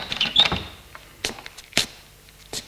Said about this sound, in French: Marc ouvre la porte et sort de l'appartement.